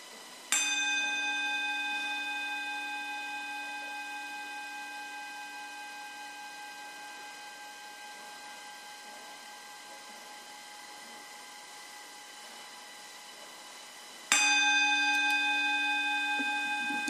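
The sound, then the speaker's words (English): A bell is struck once and rings out with a long, shimmering decay that fades slowly over many seconds, then is struck again near the end, loud and clear with no voices. “Okay, so let's start by listening to the sound of the bell.”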